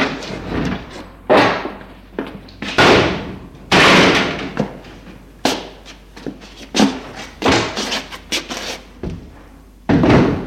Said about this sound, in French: Petit matin, ils entendent que la porte du garage s'ouvre.